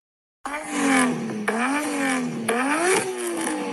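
A Toyota Chaser's 1JZ engine revs hard, its pitch climbing steadily then dropping sharply a few times as it shifts up through gears. No talking.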